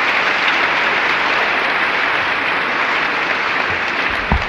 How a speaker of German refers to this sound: Hallo Freunde, das war der Jugendchor Gommaringen, der einen besonderen Beifall verdient, weil er ohne elektrisches Kraftwerk und Verstärkeranlage singt.